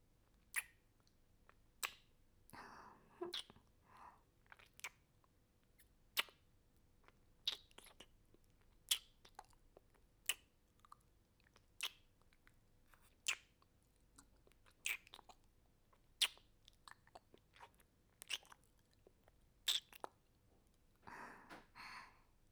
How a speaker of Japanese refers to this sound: では、泡で体を洗っていきますね。体に泡を塗っていきますね。